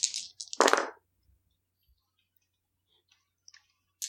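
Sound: dice being rolled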